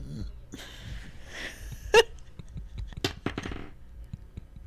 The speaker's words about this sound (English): You burped so hard my earphone fell out. Now, I don't know if it was because of the sound coming through the earphone or because the wind came across the room. But one way or another, you burped and knocked my earphone out. Oh, that was super loud.